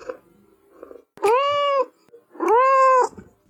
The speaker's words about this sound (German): Drittens, Babykätzchen.